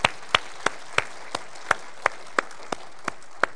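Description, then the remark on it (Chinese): Applause for a short skit just performed, in the form of sharp, evenly spaced hand claps, about a dozen in a slow steady rhythm, with no talking over them. “就好像刚才我们看的短剧做得很好，掌声归神，好吗？”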